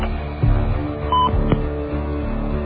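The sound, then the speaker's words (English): A short touch-tone phone keypad beep rings out once, clear, over a steady low background hum with a few soft clicks around it, as a mailbox number is entered on a voicemail system. No one speaks. “Enter the box number you want to leave a message for, followed by the pound sign.”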